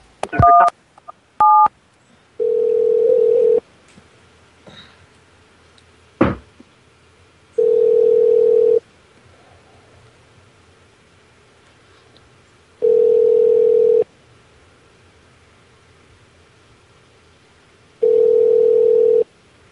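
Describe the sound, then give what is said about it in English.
A few quick touch-tone dialing beeps, then a steady low telephone tone sounding in long, even pulses about every five seconds, with quiet gaps between and no talking. “What number was that? 312? We'll call it back in a minute.”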